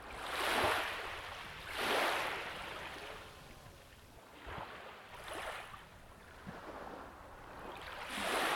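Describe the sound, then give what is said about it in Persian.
Sea waves wash in and out in repeated broad hissing surges, rising and fading about every couple of seconds, with no voices. “فعلا ما باهاتون خداحافظی میکنیم تا با هم به صدای دریا گوش کنیم.”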